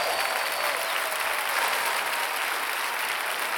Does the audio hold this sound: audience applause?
yes